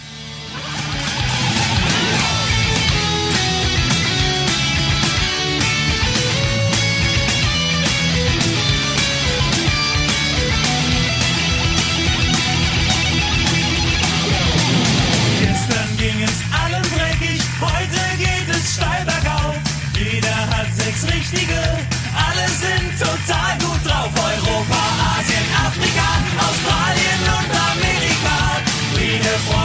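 A loud, driving punk rock song plays continuously, with distorted guitars, pounding drums and energetic vocals; around halfway the dense wall of guitar thins into a choppier, more rhythmic section.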